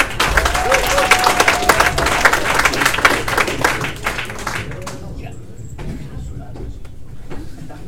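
An audience at a poetry event applauds a poet who is about to open the poetry, with loud, dense, fast clapping for about five seconds, then it fades into a quieter murmur with a few scattered claps.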